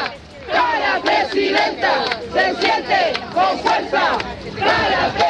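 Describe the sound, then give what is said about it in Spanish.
A crowd shouts and cheers in support of candidate Janet Jara as she walks to her polling station, many voices chanting in loud, rhythmic bursts that rise and fall steadily throughout. “Gritos de apoyo a Janet Jara en estos instantes.”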